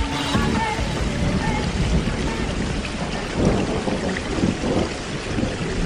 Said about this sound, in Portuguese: Como diria Jorge Lima no poema, Zefa, chegou o inverno. Lá fora a chuva, chuva e mais chuva.